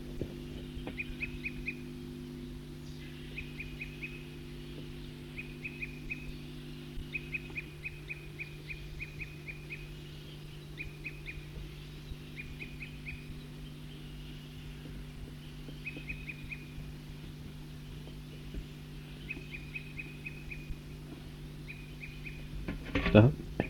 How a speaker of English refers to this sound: Recording the same bird.